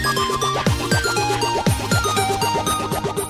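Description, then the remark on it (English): A busy electronic mobile phone ringtone melody, an entry in an online competition to pick a ringtone for a company's phones, plays on its own, loud, with bright repeating tones, swooping downward notes and a steady bouncing rhythm. “And then the winner in this online competition will be on all of those phones of that company.”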